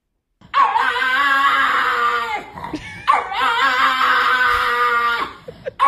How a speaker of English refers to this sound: He's echolocating. Yeah. That last one. The beginning ones sound like a dog, and he's ramping up into human voice. And then it just sounds like an old man at the bottom of a stairwell.